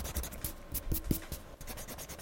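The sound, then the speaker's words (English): A pencil scratches across paper in short, quick strokes as a plan is written down, a dry rasping texture with brief louder scrapes in the middle. Fairly quiet, with no voices. “Once you have semi-permanently jotted down your plan on paper, it's time to sit and reflect upon the job at hand, making sure you've covered all the bases.”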